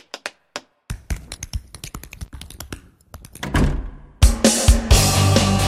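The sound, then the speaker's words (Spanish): Tap dancing: sharp heel-and-toe taps start sparse, then quicken into rapid bursts. A louder wash of noisier sound takes over near the end. “¿Cómo era lo del tap? Así, vea.”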